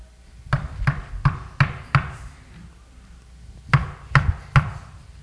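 Firm knocking: five evenly spaced knocks, a short pause, then three more in quick succession, each with a solid low thud and no voices.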